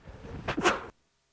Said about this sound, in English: Joy. Now I'm fixing to sneeze.